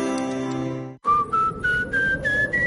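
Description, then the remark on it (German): A thin, airy whistle of a draft squeezing through the gap of a leaky front door, its pitch creeping upward in small steps over a breathy rush, after a held tonal chord cuts off abruptly. “Durch ihre Haustür pfeift's, dann ist sie wohl nicht ganz dicht.”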